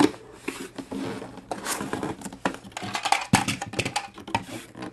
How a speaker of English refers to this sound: Somebody's taking something out of a box. And then I think the other thing is really just that very basic Christmas morning, jolly little feeling of seeing something new come out of its package. Let's see what we have in this box.